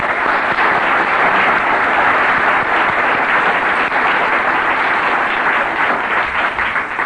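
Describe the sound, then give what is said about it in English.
Loud, sustained applause from a large audience for the committee that organized a weekend event. Many hands clap in a dense continuous roar that holds steady for about seven seconds with no voices over it. “And can we give the committee a round of applause?”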